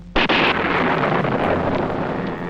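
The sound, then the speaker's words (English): A sudden, loud double bang of a sonic boom from a supersonic aircraft, two sharp cracks in quick succession followed by a heavy, rolling rumble that slowly fades. No voices. “Flight speeds like this produce a sonic boom, and there's nothing the pilot or anyone else can do about it.”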